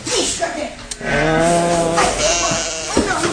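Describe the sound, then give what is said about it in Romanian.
A sheep lets out a loud, wavering bleat lasting about a second, with rustling farmyard noise and brief voice-like sounds around it. “Ai altă oaie, alta, alta.”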